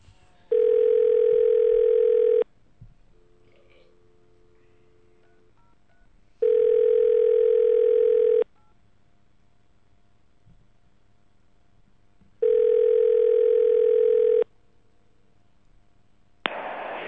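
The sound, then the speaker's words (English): Telephone line tones as a number is dialed and the call goes unanswered: three steady two-second electronic beeps repeating at even intervals, with faint brief tones and quiet line hiss in between, ending on a sudden burst of noise. “I hope I dialed that right.”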